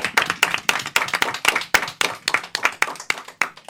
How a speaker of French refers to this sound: Bravo à Omé Batobo, on peut les applaudir.